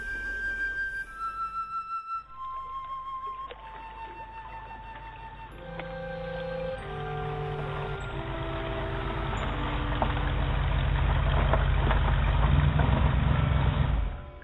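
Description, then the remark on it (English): A car engine rumbles steadily and grows louder as the car is driven down to Stingray Point in Deltaville, with a series of stepped, falling tones sliding down over the low roar. No one speaks. “I jumped in my car and drove down to Stingray Point.”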